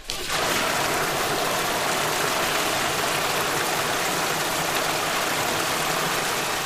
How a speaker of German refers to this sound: Und mit dieser Flut werden die Schiffe durch die 14 Meter lange Wasserteststrecke gezogen oder geschoben.